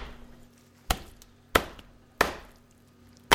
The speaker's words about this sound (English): I'm trying to chop up this turkey because, you know, a 25-pound turkey doesn't really want to fit in a microwave.